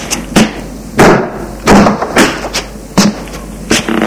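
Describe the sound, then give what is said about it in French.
A front door being closed by a son who has just come in, heard as a series of dull, heavy thuds and knocks at uneven intervals, fairly loud with a low rumble beneath and no voices. “Il ferme la porte.”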